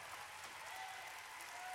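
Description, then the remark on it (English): Steady applause from a conference audience clapping with their non-dominant hand, a dense continuous patter of many hands clapping at once, fairly quiet and even throughout with no voices standing out. “Now, clap the other way.”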